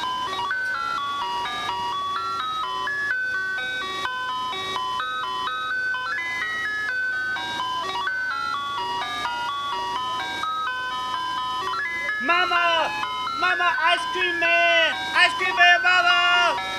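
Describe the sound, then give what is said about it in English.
An ice cream truck's tinkly electronic jingle plays a bright, stepwise melody steadily, growing busier and warbling near the end as other sounds layer over it. “And then I got me to thinking about the sound of the ice cream truck, how you would just hear that and you just come running.”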